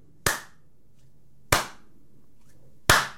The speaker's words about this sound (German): Und jetzt alle mal Applaus.